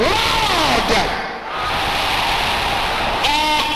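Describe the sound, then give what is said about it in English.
A large crowd shouts loudly together in prayer, each raising their voice to be louder than anyone around them, a dense, continuous roar of many voices that dips briefly before surging back with strained, high-pitched cries rising out of the mass. “Raise up your voices like fire and say this louder than anyone around you.”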